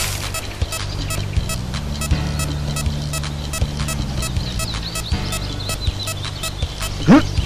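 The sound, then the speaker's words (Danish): Electronic game beep tones, which sound when the up arrow key is pressed, hum low and steady, shifting pitch in steps over a busy bed of clicks, before a loud rising swoop near the end. “Når man bare skal trykke pil op, der kan man høre sådan en bip-tone.”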